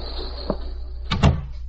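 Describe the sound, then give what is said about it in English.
A door swings shut with a soft knock and a quick double thud, after a faint tick, over a low steady hum. No one speaks. “Close the door.”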